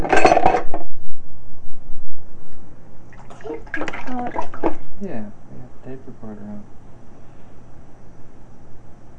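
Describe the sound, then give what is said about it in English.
A brief, bright splash of water rings out at the start as a child is bathed, followed by a voice speaking softly over faint background hum while the child's back and underarms are washed, with small watery clinks now and then. “You don't like getting your back washed, do you? I'm gonna wash under your arms.”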